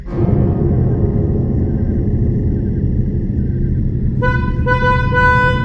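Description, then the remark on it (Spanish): A car horn blares loudly and steadily over the last second and a half, after several seconds of deep, rumbling engine and traffic noise. “Lo que vi me asustó, también me asustó el ruido del claxon.”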